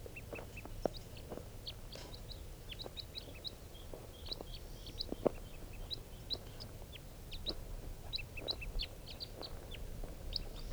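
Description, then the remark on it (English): A flock of birds, hanging around after one male was caught in a net, calls over low background rumble, with many short, high chirps and chips repeating irregularly throughout, plus occasional lower clucking notes. “One of them and just got the male in the net, and he'll be bird number 436, and the rest of the flock is hanging around here.”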